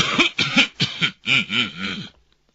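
A voice clears its throat several times in a row: a quick string of gruff, voiced 'ahem' sounds, close and moderately loud, trailing off into silence. It sounds like a performed imitation.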